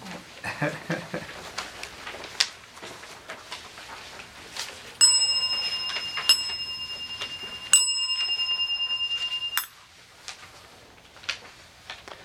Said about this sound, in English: And then after about 2 minutes or so, I'll ding the bell again, and that's when we'll stop.